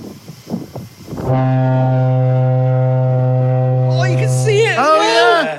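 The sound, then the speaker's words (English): A deep, steady foghorn siren blast, driven by engine-fed air pressure, starts abruptly after a second of murmuring and wind. It holds a loud low drone for several seconds before its pitch sweeps and wavers near the end. The siren was installed in 1906; its engines were installed in 1951. “Winding up the siren to go again, yeah.”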